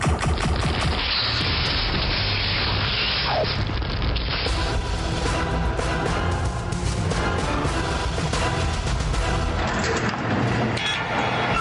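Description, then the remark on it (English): A voice-activated laser cannon fires in a loud, sustained roaring blast, a dense crackling rumble that fills the whole stretch without letting up; no voices are heard. “I'm taking aim with my voice-activated laser cannon, Mr.”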